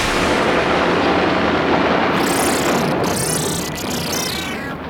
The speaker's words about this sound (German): Aus! Das Raumschiff ist explodiert.